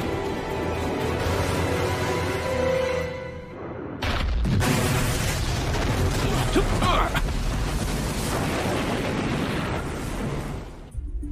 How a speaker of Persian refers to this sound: تو دریا صدای انفجار میشنوم قربان. یکی دیگه، یه انفجار دیگه هم شنیدم.